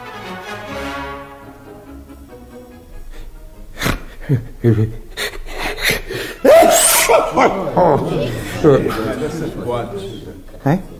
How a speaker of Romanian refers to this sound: Și dacă am strănut aici? Toată lumea a strănut. Și țăranii, și polițiștii, și chiar și demnitarii.